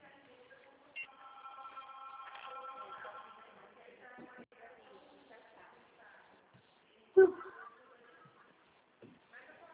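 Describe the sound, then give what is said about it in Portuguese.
A telephone rings with a steady, warbling electronic tone lasting a few seconds at moderate volume, followed by quieter clatter and a single sharp thump. “Claro, tem um telefone.”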